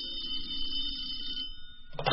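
A telephone rings with a steady, bright bell tone for about two seconds over a low background rumble, then cuts off abruptly with a short clatter.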